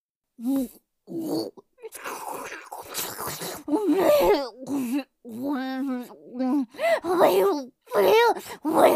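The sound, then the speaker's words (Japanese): A woman wearing a nose hook squeals and grunts like a pig in a string of loud, wordless bursts, some with high sliding pitch, others raspy and breathy, separated by short pauses. “勇者がなんか鼻フックつけられてブヒブヒ泣いてる変態女にまたがって登場したんじゃけど、なにこれ、ドッキリ、ドッキリなのか。”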